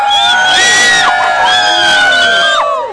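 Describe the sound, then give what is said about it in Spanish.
A loud crowd of radio listeners who have come to the event shouts and cheers together, many high voices overlapping in sustained yells and whoops that fill the whole moment without a break. “ese radio que he escuchado un grito de la gente.”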